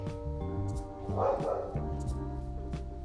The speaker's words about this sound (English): Sorry, my dog gotta bark every single time somebody, he hears somebody, he just be ready to snatch somebody up.